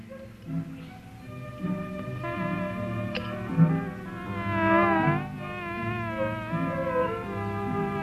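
A dense, droning buzz of wild bees fills the whole stretch, steady with wavering pitch, swelling slightly midway without any talking.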